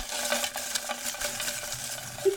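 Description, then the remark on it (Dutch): Continuous crinkly rustling of paper as a hand rummages through a grab bag at a microphone, a steady, fairly loud crackling texture with small irregular crunches throughout and no voices. “Heerlijk, dat geluid van papier en plek.”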